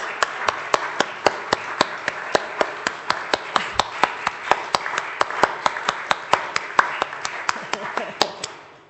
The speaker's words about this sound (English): And you very kindly clapped before I said who it was, so we can clap again in a moment.